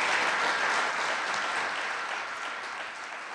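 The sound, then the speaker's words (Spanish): An audience claps for Jesus in a dense, steady burst of applause that holds for several seconds and tapers off slightly toward the end, with no voices standing out. “Denle un aplauso a Jesús porque Él es bueno.”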